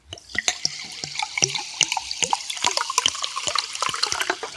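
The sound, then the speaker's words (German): Magnus Classic sparkling mineral water being poured, a steady fizzing hiss broken by dense crackling pops and gurgles of liquid, with no one talking. “Es ist das Zischen des Magnus Classic.”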